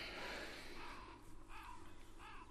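Crows caw in harsh, rasping bursts, two clear calls about a second apart following a rougher squawk, set against a steady, hissy outdoor background with no one talking.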